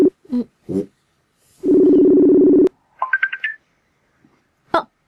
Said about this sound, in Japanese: 沖縄に電話したいと思います。 電話する。 彼女たちがいるところに、はい。連絡したいと思います。